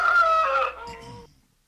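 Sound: rooster crowing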